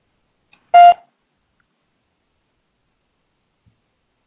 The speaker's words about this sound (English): What the heck was that? And beep to you, too. You beeped. Who beeped? You heard me. You turned me on. You beeped.